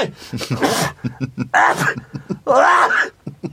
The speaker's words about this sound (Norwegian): Husk, jeg nyser akkurat som min far, og han er jo overdrev alltid, jeg trodde det.